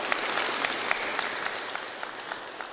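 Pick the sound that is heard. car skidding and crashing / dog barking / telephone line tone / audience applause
audience applause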